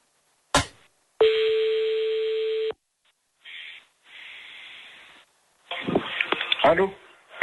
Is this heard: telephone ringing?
yes